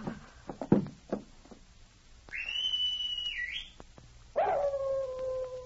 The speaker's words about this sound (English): The animal howled again and raced back up the trail.